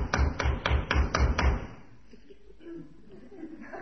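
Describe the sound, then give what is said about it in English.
Six firm, evenly spaced knocks on a door in quick succession, fairly loud, followed by a quiet stretch with only faint background noise. “Must be important for him to keep on knocking like that.”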